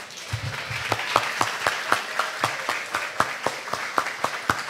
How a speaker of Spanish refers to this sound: ¿Cuánto le adoran con un aplauso?